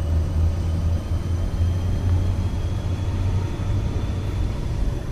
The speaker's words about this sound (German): Gemächlich setzt sich der Zug in Bewegung. 9 blau-gelbe Waggons und ein Postwagen auf dem Weg über fast 1000 Höhenmeter hinauf ins Gletschereis.